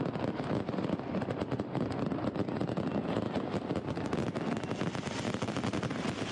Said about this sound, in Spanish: ¿Qué escuchas, Félix? Bueno, fuegos artificiales, ¿no?